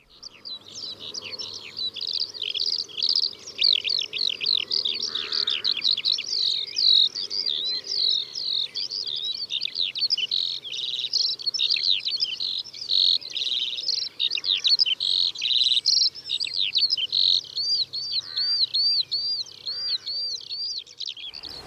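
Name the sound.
skylark song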